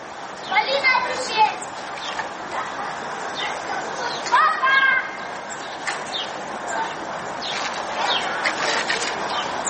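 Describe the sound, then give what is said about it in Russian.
Shrill children's voices shout and call out in short bursts as kids play in a construction pit dug beside the Solnyshko kindergarten on Saturday, 11 February, over a steady, noisy outdoor background. “Дети в котловане играются.”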